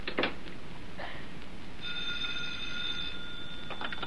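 A telephone rings once in a steady, buzzing tone lasting about a second, over a hissy, noisy background with a few soft clunks and clatters before it.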